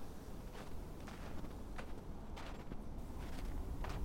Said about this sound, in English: On the other side, I found a campsite, vacant, unused for some time. That's when I heard footsteps approaching in the distance.